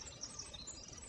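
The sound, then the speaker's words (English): A morning chorus of marsh birds at Tektaxan Marsh and Saturna Island, British Columbia, including American robins, red-winged blackbirds, nuthatches, yellowthroats and ravens: many high chirps and trills overlapping in a steady, fairly faint wash of song with no voices. “American robins, red-winged blackbirds, nuthatches, yellowthroats, and ravens are heard in the rich tapestry of morning birdsong”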